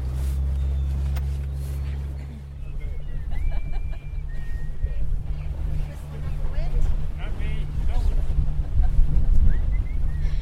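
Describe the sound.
A small fishing boat's motor drones steadily as it heads across the water off Newfoundland to a traditional fishing ground called the Harvey for handlining, just before sunset, with wind buffeting the microphone and faint, indistinct voices murmuring in the background.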